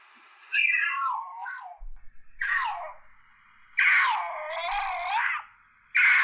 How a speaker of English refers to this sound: Okay, this is a mountain lion screams in the Angeles National Forest.